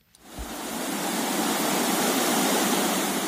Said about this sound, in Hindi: नदी के धारों की आवाज उस वक्त की है जब कोसी का पानी नेपाल से बिहार में प्रवेश कर रहा था। इसी पानी ने पूरे उत्तर बिहार में बाढ़ ला दिया है।